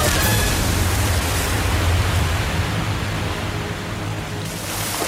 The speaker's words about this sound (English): We're about to go over a huge waterfall.